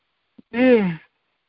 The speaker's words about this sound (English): Sorry, folks. Yawning there.